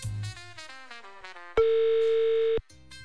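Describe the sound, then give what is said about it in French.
A single steady, loud telephone ringback tone on an outgoing call from radio station Rouge to a listener in Bôle, canton of Neuchâtel, lasting about a second, with brief stretches of melodic music before and after it. No one speaks. “Va-t-il décrocher? Oh là là, quand ça sonne beaucoup, c'est mauvais signe.”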